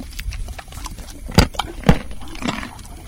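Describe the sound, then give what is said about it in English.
A horse approaches outdoors in a pasture on a farm of 10 rolling acres, with a few heavy, irregular thuds and breathy bursts standing out over a faint background hush. No one speaks. “took me out to the pastures where the horses wander lazily through the farm's 10 rolling acres.”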